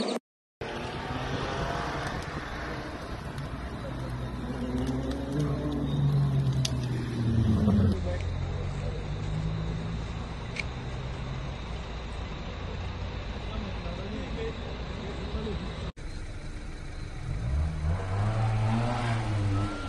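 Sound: traffic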